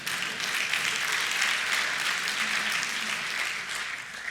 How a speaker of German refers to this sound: Klatscht ihr, weil ihr keine lustigen Vorträge hören wollt, oder?